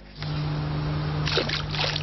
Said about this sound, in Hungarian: Most csak a vízbe dobott kőcsap zajt a csepeli Kis-Dunaparton.